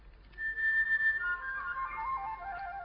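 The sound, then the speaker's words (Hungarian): A thrush whistles a clear, bright phrase of sustained notes that slide downward, heard alone against a soft low background hum. “És itt a vérigó. Fütyül még.”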